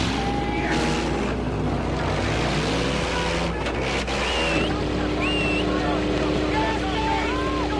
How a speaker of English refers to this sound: And so to the final reckoning. Colossus versus Colossus, Goliath versus Goliath. Gentlemen, warm up your engines!